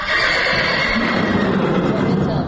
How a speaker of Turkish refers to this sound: Tövləyə girən kimi tanış səsə səs verir atlar.